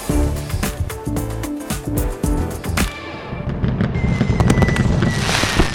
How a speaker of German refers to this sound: So, und jetzt schauen wir nochmal auf den Beginn dieses Monats. Sie wissen schon, aus Feuerwerk. Auch dieses Jahr wieder exzessiv und begleitet von Kritik.